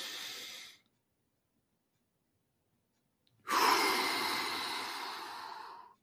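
A breath ends, silence follows, then a long, audible exhale rushes out with sound during a deep-breathing exercise, broad and airy, lasting about two and a half seconds before fading.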